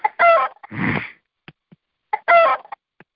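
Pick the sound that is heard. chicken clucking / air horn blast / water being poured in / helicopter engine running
chicken clucking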